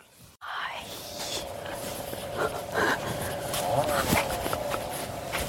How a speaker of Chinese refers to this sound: 其实我是个很怕狗的人，然后在这里的话，这只狗它跟我感情很好，因为我总是喂它面包，所以我也不是很怕它啊，可能会跟着我。